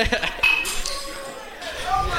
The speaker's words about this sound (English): I hope the listeners heard that glass broke.